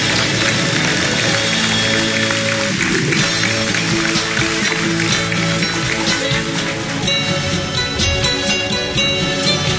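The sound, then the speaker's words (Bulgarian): A large audience applauds continuously at an ABV political party event where new members receive membership cards, a dense, steady roar of clapping that stays loud and even for about ten seconds, with faint voices or tones murmuring underneath. “Вашите аплодисменти са тези.”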